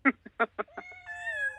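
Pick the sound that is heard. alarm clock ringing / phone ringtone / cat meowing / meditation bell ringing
cat meowing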